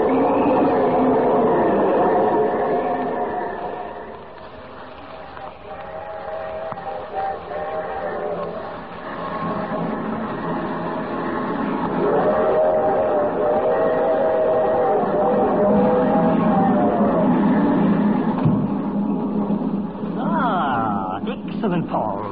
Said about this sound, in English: The train hasn't stopped since I got on.